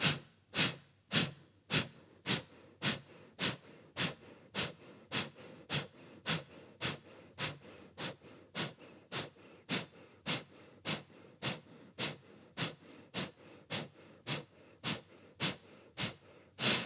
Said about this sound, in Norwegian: Gjør deg klar for runde 2. Puster dypt inn.